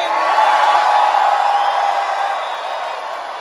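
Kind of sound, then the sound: crowd, audience cheering and whooping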